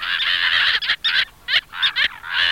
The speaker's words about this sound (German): Dünnschnabelmöwe hat mir sehr gut gefallen.